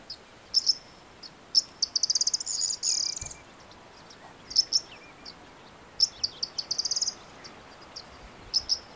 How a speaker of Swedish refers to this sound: Men det är inget sånt där som man bara hör liksom något ljudligt så, utan det är ett speciellt läte som man måste vara lite präglad på för att höra det och förstå storheten i vilka fågel det kommer ifrån.